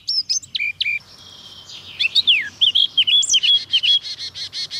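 A bright, varied warbling blackcap song marking its territory, with rapid whistled phrases and flourishes, loud, followed near the end by a tit's quick repeated high call notes chiming in.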